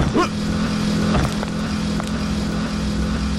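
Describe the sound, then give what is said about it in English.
A moped's small engine drones steadily and loudly on a street, its buzzing hum holding an even pitch after a brief rev at the start, with no voices. “So, the moped hit that monster.”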